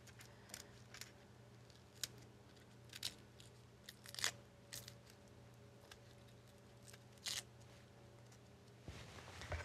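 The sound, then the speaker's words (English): Dry, papery crackles and crinkles of onion skin being peeled away, coming in irregular bursts over a faint steady background hum, with no talking. “Just get the skin off this onion.”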